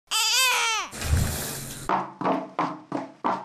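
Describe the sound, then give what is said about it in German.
A baby babbles and cries loudly for under a second at the start, then a rushing spray of water from a shower head and a run of a woman's sharp, evenly paced footsteps follow. “Säugling, Duschkopf, Damenschritte.”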